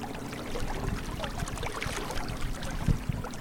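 Outdoor riverside ambience at the boat launch on the Columbia River in Revelstoke, just after 6 a.m.: steady water trickling and lapping, with irregular knocks and thumps as gear is packed into a yellow canoe. No one speaks.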